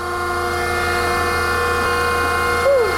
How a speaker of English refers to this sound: Earlier this week, I stopped by the Book Club Chicago and got to play with the book-making machines there, such as the guillotine cutter. Take a listen.